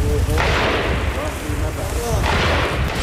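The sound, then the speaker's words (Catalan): Gunfire in the Jenin refugee camp, home to 20,000 people and besieged by Palestinian forces, where shooting has been constant for 26 days: two loud bursts of shots, one early and one near the end, over a constant low rumble with faint voices murmuring in the background. “El so dels trets és constant des de fa 26 dies en aquest camp de refugiats on viuen 20.000 persones.”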